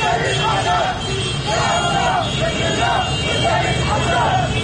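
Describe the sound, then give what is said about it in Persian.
A crowd of Hezbollah-affiliated motorcyclists chants slogans in rhythmic bursts over a steady, loud engine rumble in the streets of Beirut, Lebanon, with the chanting rising and falling in repeated phrases throughout. “موتور سوارهای وابسته به گروه حزب الله خیابان‌های بیروت پایتخت لبنان را در می‌نوردند و شعار سر می‌دهند.”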